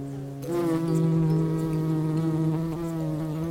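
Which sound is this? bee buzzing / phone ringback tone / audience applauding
bee buzzing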